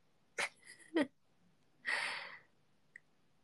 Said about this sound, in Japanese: うん、ということで、めっちゃあくび出ますやん。もう眠たいんよ。